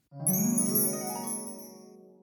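A single bright chime rings out alone, its layered metallic tones shimmering and slowly fading over about two seconds, the page-turn signal in a guided read-along of the book When the Storm Comes.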